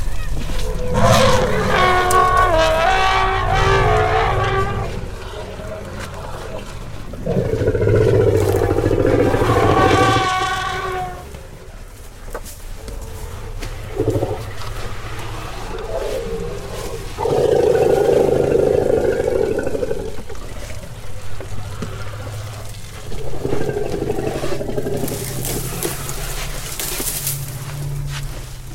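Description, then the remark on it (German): Loud, brassy trumpeting blasts come in several bursts over a deep, sputtering rumble like a broken motor, with some heavy stamping thuds between them. No one speaks. “ich höre da ein bisschen Stampfen, dann höre ich irgendwas, was klingt wie ein kaputter Motor und ich höre natürlich das Trompeten.”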